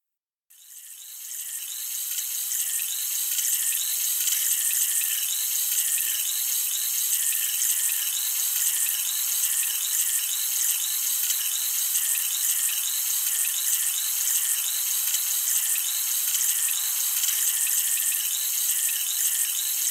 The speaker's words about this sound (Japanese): 不思議ですよね。このシュワシュワとした感触。炭酸を用いて耳洗浄をしているので、この特別な心地よい感覚がするんですよ。